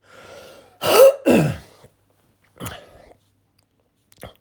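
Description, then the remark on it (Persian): A loud pair of harsh coughs with a throaty clearing from a person who has had asthma for many years, followed by a softer throat clear and a brief faint rasp near the end. No talking. “ببخشید این که من سرفه میکنم، من سالیان سال آسم داشتم، حالا خوب شدم.”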